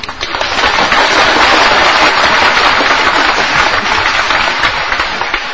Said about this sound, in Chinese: 这回拍掌，这回鼓掌又太早了。